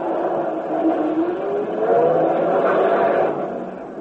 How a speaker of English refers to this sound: Sit down, baby, and let the guy start his bus.